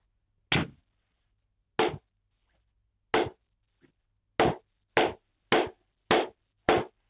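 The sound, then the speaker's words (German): Eight crisp hand claps from a caller in a guessing game tap out the rhythm of a song, a few slow, widely spaced claps giving way to a quicker, steady run, with no one speaking. “Soll ich ihn einfach klatschen, ne?”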